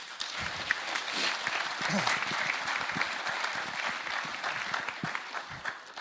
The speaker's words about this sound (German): Ein kleiner Applaus